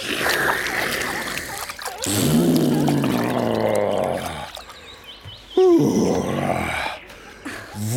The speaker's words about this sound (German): Und noch ein Schlückchen in den Rüssel und dann über den Rücken gießen.